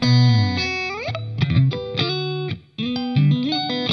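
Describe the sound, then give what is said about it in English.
A bright, springy clean electric guitar, played with both pickups selected, plays a bouncy riff of short notes and quick slides, with one brief pause near the end, fairly loud with no voices. “And that's the little, both of them. Springy, bouncy.”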